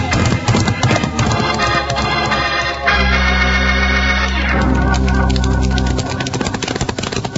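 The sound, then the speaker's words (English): Horses named Buckshot and Joker gallop as they are ridden, with a rapid, continuous clip-clop of hooves, loud throughout, while a steady low rumble swells under the beats midway through before easing off. “And now we do some riding.”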